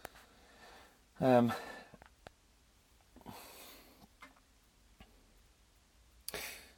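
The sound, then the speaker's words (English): Faint, slow ticking, sparse single clicks roughly a second apart, from a lit gas fire with its pilot light on in a motorhome, with a short vocal sound and a couple of breathy sniffs in between. “It's ticking away, and I'm a little bit worried about that because it shouldn't be ticking.”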